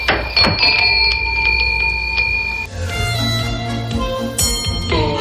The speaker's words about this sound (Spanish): nos vamos a adentrar en una vieja librería de barrio, de esas que avisan a los libros que alguien está entrando y abre la puerta para verlos.